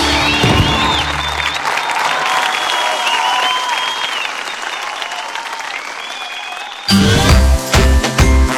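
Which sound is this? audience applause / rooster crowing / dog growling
audience applause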